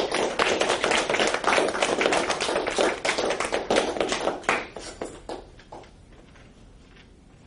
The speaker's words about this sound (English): Well, if there are no more questions, let's give our speaker a round of applause.